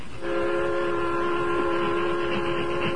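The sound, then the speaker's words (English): A steam train climbing Jackknife Hill, nearly at the top of the slope, rumbles steadily with a sustained, droning whistle tone held over the chugging noise for the whole stretch, loud, with no voices. “Train nearly reached top of slope.”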